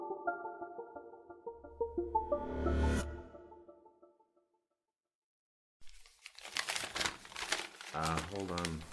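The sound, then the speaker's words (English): After a few sustained electronic tones and a brief silence, paper is handled and crinkled, a loud, busy rustling that continues steadily to the end. “Second, I've got to get this piece of paper.”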